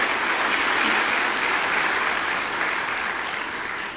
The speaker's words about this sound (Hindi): मैं आप सबसे अनुरोध करूंगा कि इन सबके लिए जोरदार तालियां बजाएं।